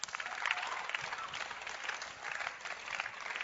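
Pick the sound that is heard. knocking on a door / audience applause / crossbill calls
audience applause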